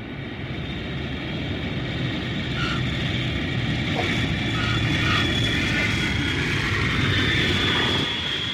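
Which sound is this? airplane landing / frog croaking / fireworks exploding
airplane landing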